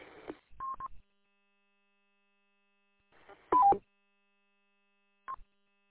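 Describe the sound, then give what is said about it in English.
Three short bursts of radio static, each ending in a quick electronic roger beep tone, separated by stretches of silence; the middle burst carries a two-note chirp. “Turn that Roger beep off.”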